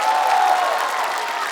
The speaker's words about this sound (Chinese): 掌声送给内蒙古大学艺术学院马头琴乐团。再次给我的乐团掌声，谢谢各位。